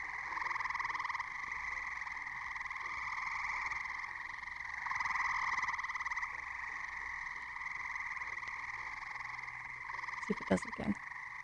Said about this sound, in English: Okay, I only heard one green frog in there, but it was that sound kind of like a loose banjo, a little plunk plunk.